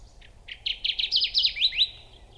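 A Kirtland's warbler sings a short, loud burst of bright, chirpy notes that quicken and climb into a rapid run, over a faint low background rumble.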